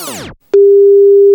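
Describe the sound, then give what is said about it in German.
A brief descending swoosh fades out, then after a short gap a steady, loud single-pitch telephone tone begins and holds continuously, like a ringback tone heard before a call to a yacht equipment supplier in Heiligenhafen connects. “Telefonierte ich dann mit einem Yachtausrüster hier in Heiligenhafen und das Telefonat, das klang dann so.”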